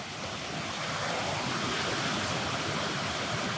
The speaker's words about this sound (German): Und witzig, dass wir gerade darüber reden mit Klängen in der Natur. Hier hört man jetzt schon gerade einen Fluss rauschen.